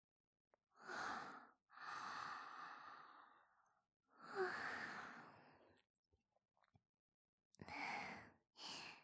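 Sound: yawn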